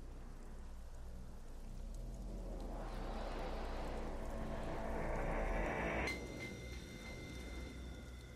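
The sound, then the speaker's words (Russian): Steady, heavy rain drums against a window while a hurricane-force wind howls outside, swelling louder through the middle and easing slightly near the end, with a low rumbling undertone and no voices. “Снаружи завывал ураганный ветер, дождь барабанил в окно, а в доме было тихо, как в могиле.”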